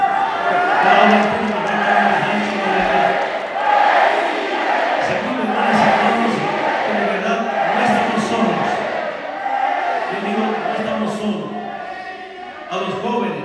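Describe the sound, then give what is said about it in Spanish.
A large crowd shouts the chant "Evo presidente" in unison, many voices rising and falling together in repeated rhythmic phrases, loud and sustained for the whole stretch without pause. “Y sobre todo, hermanas y hermanos, de verdad, me emocionan al seguir gritando. Evo presidente, yo pensé que ya se había acabado la gestión.”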